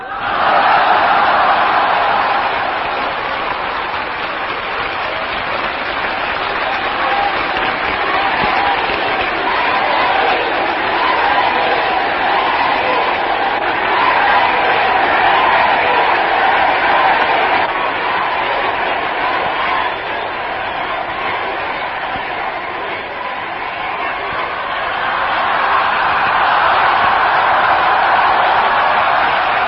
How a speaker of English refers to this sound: I left some of that yelling and clapping, put it in there, because there was so much interest in what he had to say. But that was JFK speaking back in June 26, 1963.